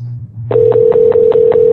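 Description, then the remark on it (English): An odd telephone ringback tone: a steady electronic tone kicks in after a low hum, overlaid with rapid, evenly spaced pulses, loud, with no one talking. “All right, that's ringing funny. I don't like the sound of that.”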